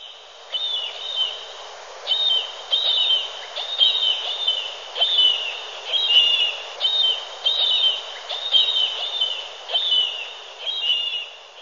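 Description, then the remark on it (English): Repeated high, thin bird calls arrive in quick bursts roughly every second, a steady series of chattering chirps from a tiny brown marine bird, a small alcid about 7 or 8 inches long, clear with no talking. “So you might be way out, way from shore and see this little tiny bird and it's making calls like that”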